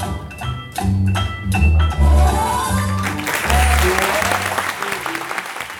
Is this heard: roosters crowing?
no